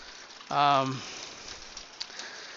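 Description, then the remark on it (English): Hail falls steadily, a dense, hissing patter with a few sharper clicks. A brief voiced sound, like a short vocal utterance, cuts in near the start. “It's a lot of hail.”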